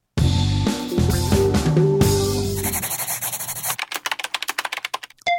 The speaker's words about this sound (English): And it's time for your letters, which could involve pencils or keyboards, apparently, given that sound.